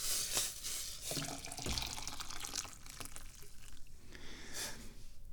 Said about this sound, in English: Oh, now we gotta pour the water.